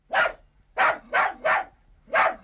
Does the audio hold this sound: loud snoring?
no